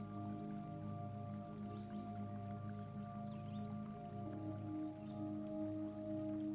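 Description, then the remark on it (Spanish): Water trickles and splashes steadily from a stone fountain, a continuous soft patter with tiny drips, layered over a sustained low humming drone. No one speaks. “De ella emana un agua cristalina y pura.”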